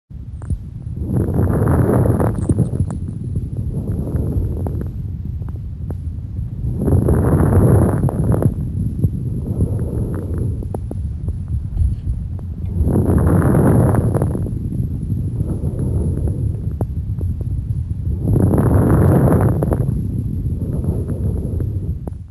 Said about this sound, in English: Now listen to this recording of low-pitched or coarse crackles, typical of chronic bronchitis.